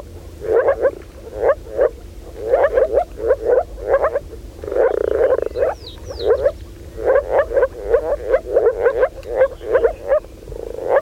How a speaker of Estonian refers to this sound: Ma ise olen kasutanud sellist liigitust, et rabakonn on nagu koer ja haugub ning rohukonn on nagu kass ja nurrub. Kuulamegi siis, milline on rabakonna haukuv laul.